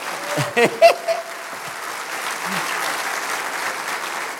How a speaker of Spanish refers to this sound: En pocas palabras, den un aplauso fuerte al Señor.